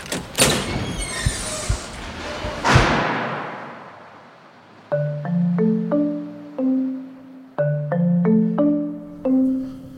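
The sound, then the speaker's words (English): A door rattles and thuds loudly for a few seconds as it is wrenched and forced open. A short descending run of clear tones follows and then repeats. “I'm gonna try to open this door.”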